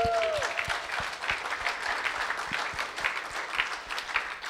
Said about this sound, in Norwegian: Ikke det vært en applaus?